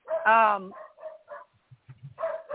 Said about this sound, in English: Sorry, my dogs are barking.